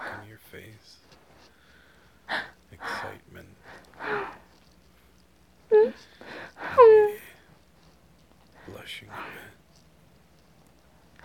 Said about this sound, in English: Staggered breathing.